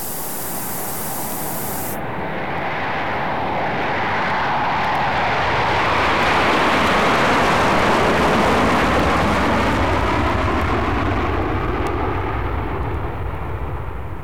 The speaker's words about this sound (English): Join me at the airport for a jet flight.